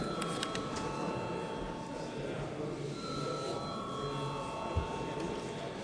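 The electric bell of the Latvian Saeima chamber rings continuously before a vote on a first reading of a bill amending the law on the Register of Enterprises, a steady, sustained high-pitched tone holding at an even level for several seconds over a low murmur of background noise.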